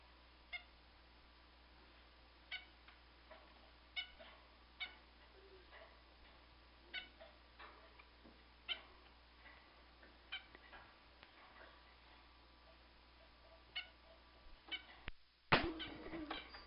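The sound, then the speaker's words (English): A caged pet bird named Chet chirps in short, scattered bursts, fairly quiet, with a brief, louder flurry of fluttering and scrambling near the end as he gets hysterical and runs all over the cage. “the sound in the midst of the bird chirping is Chet getting hysterical and running all over the cage.”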